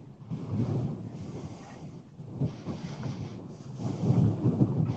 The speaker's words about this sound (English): Is it windy enough or what? It is pretty windy. You hear that wind? Not windy enough. You hear that wind? Yeah, I hear it.